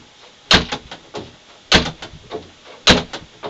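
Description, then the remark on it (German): Three loud door sounds at a steady interval, each a sharp bang followed by a short rattling tail, as doors are opened and shut one after another with no talking. “Ich weiß zwar nicht, wie viele Türen das waren, aber ich denke, das wird reichen.”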